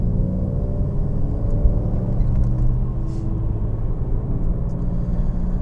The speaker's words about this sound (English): Oh, gearing down. Why is the bus... Oh, the buses. Oh, traffic.